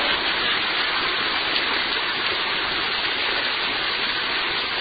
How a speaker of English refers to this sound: Where else would a bunch of dope fiends be on a Friday night in the middle of the pouring down rain? At least we're smart enough now that we got some structure above us, right?